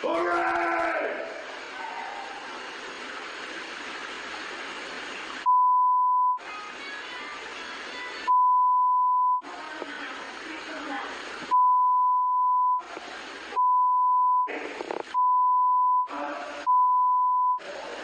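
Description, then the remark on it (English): A steady electronic tone sounds repeatedly, in bursts of varying length broken by short gaps, over harsh noisy bleating-like sounds. It is loud and close. “Those beeps.”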